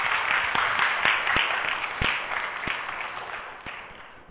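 An audience applauds, a dense patter of many hands with a few sharper individual claps standing out, holding steady before slowly tapering off. No one speaks.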